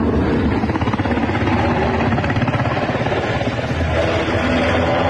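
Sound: helicopters flying overhead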